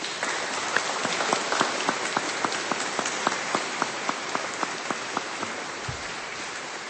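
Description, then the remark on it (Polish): An audience applauds steadily for several seconds for the performers of a staged performance, including youth from a parish schola and theatre groups, a dense wash of clapping with a regular, rhythmic beat of sharper claps running through it. No one speaks over it. “Jeszcze raz wielkie brawa dla nich.”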